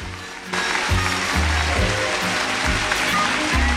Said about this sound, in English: As the audience erupts into rapturous applause,